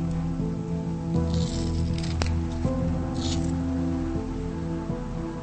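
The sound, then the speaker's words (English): A woman at a vanity mirror pulls on a piece of hair and cuts it off with scissors: a single crisp snip preceded by soft rustling, all set against a steady low hum with no talking. “She looks in the mirror, pulls on a piece of hair, then cuts it off.”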